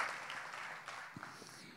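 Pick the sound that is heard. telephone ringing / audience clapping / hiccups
audience clapping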